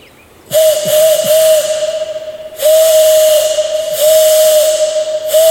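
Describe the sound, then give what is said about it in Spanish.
A conch shell whistle worn around the neck, blown hard in a canyon as a Morse-style distress signal, giving loud, breathy, steady-pitched blasts echoing off the canyon walls: one long blast with slight wavers, a short gap, then two more sustained blasts running almost together. No voices. “Recordé mi silbato de caracola colgado de mi cuello y crucé los dedos para que recordara su sonido.”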